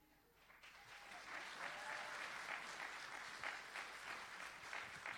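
An audience breaks into steady applause that starts softly and quickly swells into dense, sustained clapping from many hands, holding at an even level throughout with no voices heard.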